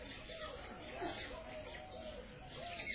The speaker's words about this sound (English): And so many birds are singing here.